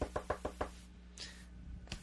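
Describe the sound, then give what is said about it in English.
A quick run of five firm knocks on a door, evenly paced, then a pause before one more single knock near the end. “Behold, he says, I stand at the door and knock.”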